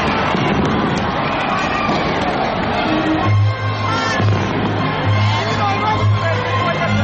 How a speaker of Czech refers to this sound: Prve minute u novoj godini obilježio je i spektakularni vatromet.